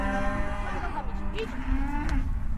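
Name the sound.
cows mooing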